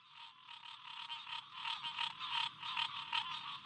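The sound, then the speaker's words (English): A dense chorus of green tree frogs calling from pockets along a muddy inland path through old rice fields now managed for waterfowl and wildlife, a steady stream of rapid, nasal, bell-like pulses that swells and throbs in loudness, with no voices present. “Wildlife biologist Bo Bauer leads me further inland, along a muddy path flanked by pockets of chorusing green tree frogs.”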